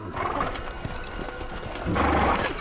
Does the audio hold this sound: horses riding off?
yes